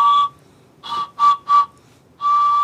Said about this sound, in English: blows across the narrow slits of bone protruding from the whistle's main body, just like reeds from a bagpipe. These whistles are tied to a pigeon's back, and they're played when the wind rushes across them.